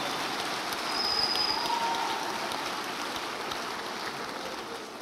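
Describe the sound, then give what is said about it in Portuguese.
A standing audience applauds the Lord in a dense, steady wash of clapping that holds at an even, fairly loud level for the full five seconds, with no voices standing out. “Fique em pé e aplauda o Senhor com alegria.”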